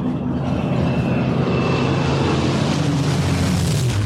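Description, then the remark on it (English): A piston-engined aircraft with Rolls-Royce Merlin engines roars past, its deep, steady propeller drone loud and continuous, with a slight pitch drop toward the end as it passes. “Rolls-Royce Merlin engines. Sweetest sound you could hear out here.”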